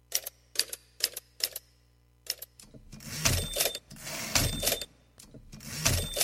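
Typewriter keys strike in sharp, irregular clacks, several separate taps at first, then a busier burst of rapid mechanical clatter, fairly loud with no voices.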